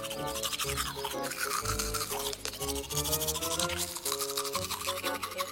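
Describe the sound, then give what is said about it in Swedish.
A child brushes their teeth with a toothbrush, the steady scrubbing continuing rhythmically throughout without pause. No one speaks. “Ett barn. En tandborste.”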